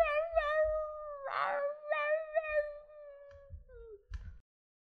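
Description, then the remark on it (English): A cat lets out a long, drawn-out wavering yowl while pooping, interrupted by a brief breathy rasp and trailing off in a short falling whine. No one speaks. “Why are you pooping, cat?”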